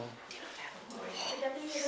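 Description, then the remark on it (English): Thin, high-pitched squeaking from a massive eagle-owl perched on a person's hand as it is carried slowly in through a door, faint and in the background, rising into a few drawn-out tonal squeals toward the end amid general background noise. “You can hear the squeaking noise it's making in the background.”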